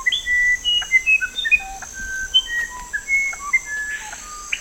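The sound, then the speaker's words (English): Clear, pure whistled bird notes in a rapid varied sequence, sliding between pitches over a steady high insect-like hum, like a tropical forest songbird singing nearby with no talking. “And there's diversity in sound, too, from the wide-ranging whistles of the screaming piha to the otherworldly melodies of the musician wren.”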